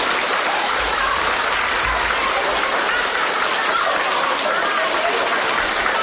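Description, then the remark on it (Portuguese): Steady, dense applause from third- and fourth-grade primary school children at Colexio Don Aurelio de Cuntis, during a live COPE Pontevedra broadcast, fills the whole clip, a loud continuous patter of many hands clapping at once with no pauses. “Un aplauso, rapaces.”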